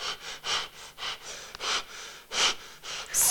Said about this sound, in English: stop breathing like that. You heard me, stop it!